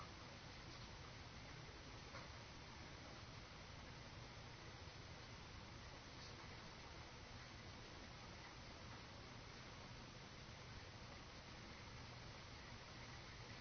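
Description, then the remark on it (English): Steady rainfall hisses evenly throughout, a dense, unbroken wash of sound with no pauses or distinct drops standing out, moderately loud. “Whatever thoughts that are there, whatever sensations are there in the body, or feelings or moods, let them all blur in with the rain.”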